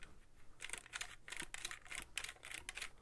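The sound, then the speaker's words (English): A camera's film advance lever, set in a round dial, is pushed back and forth repeatedly, about three times to reset the shutter and move to the next exposure, producing quick bursts of crisp mechanical clicking and whirring in an uneven rhythm, with no voices. “The other thing that's kind of cool on this is the film advance.”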